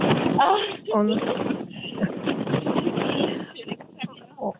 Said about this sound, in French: Où êtes-vous? On entend beaucoup de vent.